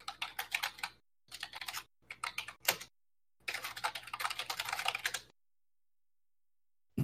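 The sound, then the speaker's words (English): Rapid computer keyboard typing in several bursts of dense, clicky keystrokes separated by short pauses, then a long silence and one brief click at the end. No one speaks. “Clickety clack, keyboard attack.”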